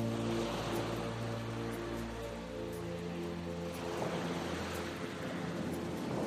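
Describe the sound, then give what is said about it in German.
A steady, hissing wash of ocean waves rolls continuously onto a beach in an even rhythm, with a soft, low sustained drone underneath; no one is speaking. “Ich höre das stetige und wohltuende Geräusch der Wellen, die in ihrem wunderbar gleichmäßigen Rhythmus an den Strand spülen.”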